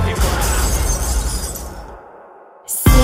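A loud burst of shattering glass, its crashing noise spreading and fading over about two seconds before music starts up again.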